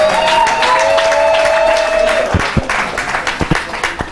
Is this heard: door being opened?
no